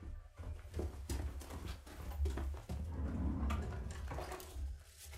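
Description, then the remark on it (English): A drawer of odds and ends is pulled open and rummaged through in search of a wedding card, with a steady run of clattering knocks and rattles over about five seconds and no talking. “I think there's one in the bits and bobs drawer.”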